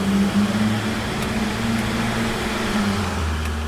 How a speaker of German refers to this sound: Das Bergwerk ist groß, ein kilometerlanges Labyrinth aus Gängen auf mehreren Ebenen. Um voranzukommen, steigen wir in einen Geländewagen.